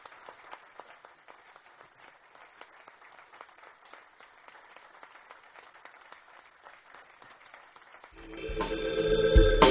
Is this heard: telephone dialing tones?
no